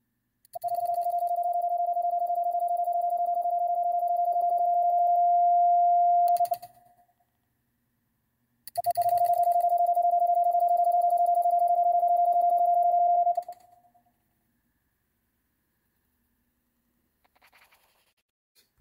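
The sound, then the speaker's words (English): Two long runs of Morse code dots from a semi-automatic telegraph key, made automatically by a vibrating spring-mounted pendulum, blending into a steady, clear beeping tone, each lasting about six seconds with a pause between, then silence. “You release a pendulum on a spring here, and it vibrates to create those dots.”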